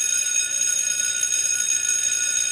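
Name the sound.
school bell ringing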